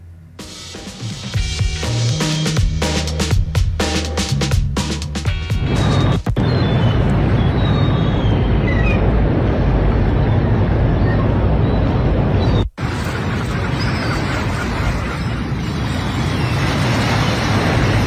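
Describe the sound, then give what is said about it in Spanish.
A steady, loud wash of surf from the sea at Pichilemu roars through the whole recording, with brief high gull cries chirping faintly above it; a burst of clattering, crackling noise opens the first few seconds. “Se escucha el sonido del mar. El mar de Pichilemu. El ambiente inconfundible con las gaviotas, con el oleaje.”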